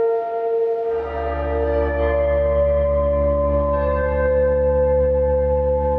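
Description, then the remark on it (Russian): An air raid alarm in Chernivtsi opens with a ringing, bell-like toll, somewhat church-like, then a deep, steady droning tone swells in beneath it and holds loud and unbroken, with no voices. “Интересно, что я был в Черновцах в это время, и в Черновцах звук воздушной тревоги начинается с удара колоколом, с таким набатом.”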